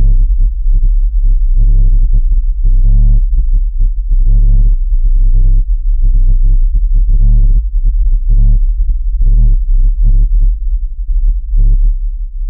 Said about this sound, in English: And I totally get the whole sound of a subwoofer out in the distance. Like there's a concert occurring somewhere that you can't see, but you can totally hear the bass.